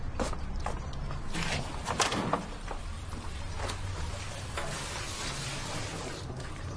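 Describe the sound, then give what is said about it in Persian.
Water is poured out of a tub of water taken from beside a washbasin, a steady rush of splashing, with a few sharper splashes in the first couple of seconds before it settles into an even wash. “آب چرا ریختی؟”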